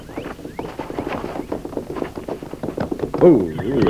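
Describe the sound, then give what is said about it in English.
Hooves clip-clop in a steady rhythm as a horse is fetched from the brush, then it gives a short, wavering whinny near the end, with what sounds like voices mixed in underneath. “I left my horse ground hitched in the brush. I'll go get him.”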